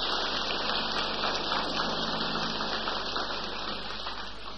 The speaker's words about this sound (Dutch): Een applaus voor die mensen.